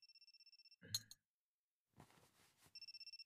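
A phone rings with a call from the listener's workplace, rapid electronic trilling bursts at the start, then a clatter and a pause, some rustling handling noise, and the trilling ring resumes at the end, clear.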